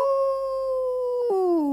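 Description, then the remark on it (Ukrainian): A rooster crows in one long, drawn-out call: a steady, ringing, mid-pitched note that breaks near the end and slides slightly lower. It's loud and alone, with no talking. “Дід, почувши півня, вибіг на двір, глянув за ворота”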